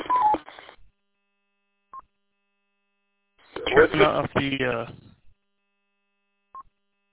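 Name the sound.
radio roger beep tone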